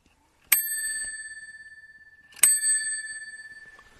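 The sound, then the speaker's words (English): A bicycle bell rings twice, each a bright metallic ding with a sharp strike and a long, shimmering ring that slowly fades; the rings are clear with no talking. “And I'm ringing that bell in honor of Allison.”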